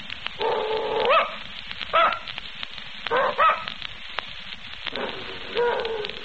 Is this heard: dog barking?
yes